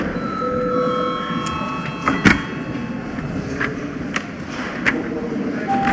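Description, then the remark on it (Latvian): A steady, ringing bell tone, rung during a parliamentary session of deputies before a registration vote, holds for several seconds at a moderate level, its overtones fading while scattered knocks and clicks break through a constant background murmur. “Jā, lūdzu zvanu.”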